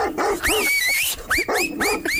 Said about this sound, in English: I can definitely hear something barking.